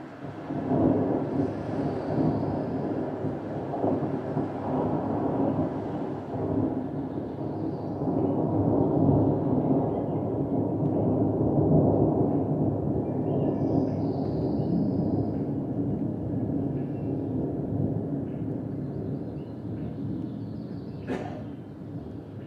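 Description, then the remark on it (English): Deep, rolling thunder rumbles far off in Lake Clark National Park, Alaska, about 200 miles west of Anchorage: a sustained low roar that swells and recedes over twenty seconds, with a faint sharp crack near the end and no voices. “Sound a little bit like thunder, but this is some beautiful kind of distant thunder in Alaska.”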